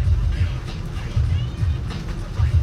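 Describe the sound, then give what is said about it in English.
A car creeps along at 20 miles an hour in rainy traffic during the first rain of the season, not yet out of town: a steady low engine rumble from inside the cabin with a constant wet hiss over it, and faint muffled voices in the background. “And here I am, not even out of town yet, 20 miles an hour.”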